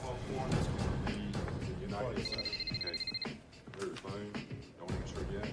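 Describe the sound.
A telephone rings with one short, rapid electronic trill lasting about a second, heard mid-level amid a busy background with people talking throughout.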